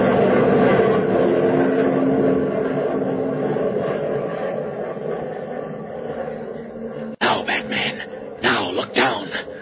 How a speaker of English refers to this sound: Oh, the plane's going away